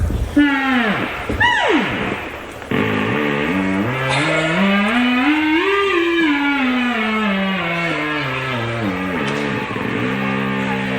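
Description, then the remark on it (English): A theremin played through an amplifier whines loudly in a continuous tone, swooping quickly up and down at first, then gliding slowly upward to a peak and back down, with wobbling vibrato throughout. “When I turn it on, hopefully it will make a funny noise. When I get nearer to it, it will make a satisfying noise.”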